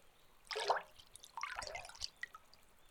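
Quiet water dripping and splashing in two short bursts as hair is lightly rinsed with water from a small stream, a wet spattering pattern with small individual drips trailing off, no voices present.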